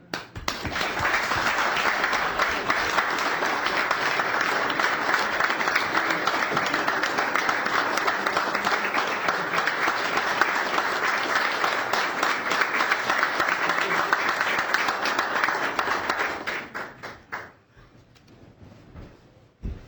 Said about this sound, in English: I'd like to thank her on behalf of the department and the community for her long years of service. And we have a nice little clap.